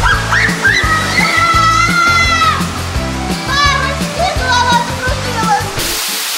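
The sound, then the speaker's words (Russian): Children squeal on water slides at an aquapark in high, wavering cries over a steady wash of rushing, splashing water, with a thumping low rumble running underneath throughout. “Вот визжат, а? Не, ну горки-то тут, конечно, классные.”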